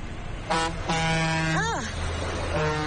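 A truck driver honks his horn in a few blasts: a short toot, then a longer sustained blare, then another brief honk, all over steady road and engine rumble.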